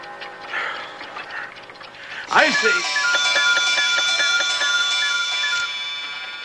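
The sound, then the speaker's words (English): A chorus of clocks of every description all around a room suddenly strikes eight together, overlapping bell-like chimes and rapid ringing tones sounding repeatedly for a few seconds before fading off, with murmuring beforehand. “All around the room, clocks of every description strike eight.”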